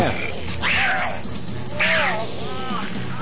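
A cat meows about three times in drawn-out, rising-and-falling calls, fairly loud, over a steady background hum.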